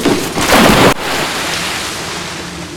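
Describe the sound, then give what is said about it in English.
A body drops back into water with a loud, heavy splash lasting under a second, then a steady low wash of churning water continues. No voices. “Dormer watches him fall back into the water”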